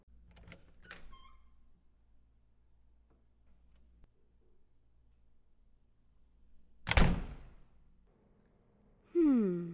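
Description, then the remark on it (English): A latch clicks and rattles briefly, followed after a quiet pause by a loud thump and a drawn-out creak as a heavy door swings open. No one speaks. “The door is open, boy.”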